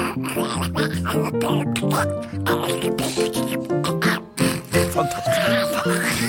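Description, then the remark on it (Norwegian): A duck at a duck pond quacks harshly and nonstop, a rapid, agitated string of loud nasal calls, the rhythm barely pausing for several seconds. “Ser du hva den anden holder på med?”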